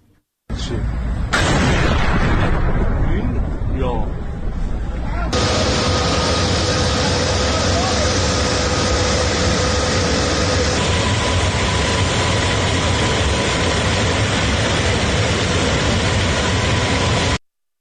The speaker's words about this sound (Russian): Ну и давайте посмотрим одно из видео момента взрыва в городе Исфахан.